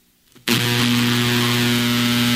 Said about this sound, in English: We have a sound of a couple of folks doing a podcast, and they're claiming that the place was struck by lightning and you could hear the lightning strike. Tell me if you think this is real.